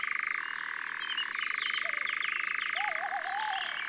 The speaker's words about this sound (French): On entend un engoulevent aussi, ce ronronnement bizarre sur deux tons, monotone. C'est un oiseau un peu mystérieux, l'engoulevent, nocturne et grand migrateur.